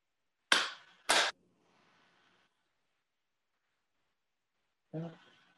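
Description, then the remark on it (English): Two sharp, loud ritual hand claps from the Shinto tradition of Japan, about half a second apart, each with a short ringing tail, followed by a few seconds of quiet and then a voice beginning to speak. “Two claps and a bow.”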